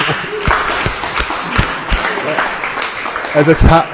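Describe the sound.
An audience applauds a speaker with steady, dense clapping that fills the whole stretch at a fairly loud level, and a voice briefly rises over the clapping near the end.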